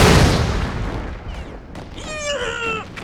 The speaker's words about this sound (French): Tous les deux casqués, costumés. Rampant dans la boue, on entend des bombes exploser partout.